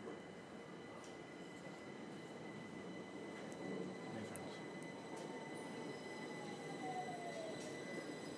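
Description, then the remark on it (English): A train pulls into a station platform, its steady low rumble filling the space while a thin metallic wheel squeal slides downward as it slows, with no voices. “The train. No announcement, but I'm assuming it's to Richmond.”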